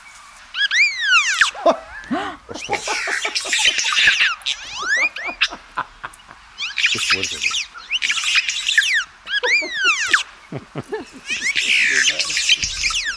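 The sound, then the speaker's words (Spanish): A black-headed weaver, an African weaver bird, in Guinea-Bissau chatters loudly and continuously: rapid sweeping whistles, buzzy rattles and clicks that sound strikingly robotic and electronic. It comes in repeated bursts, with a brief human voice in the middle. “Esto es un pájaro, que es un tejedor africano de cabeza de se cabeza llama así, negra.”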